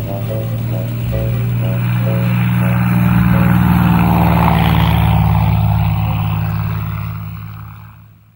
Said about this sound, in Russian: Самоделкин завел мотор, и самолет полетел обратно.